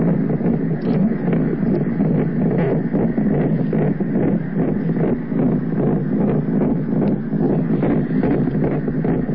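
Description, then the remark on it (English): A fetal heartbeat on Doppler ultrasound: a loud, rapid, steady whooshing pulse, roughly two beats per second, running continuously for several seconds with no voices. “Listen to the Doppler of that heart.”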